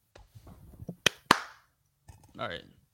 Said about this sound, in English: All right, man, clap twice for me.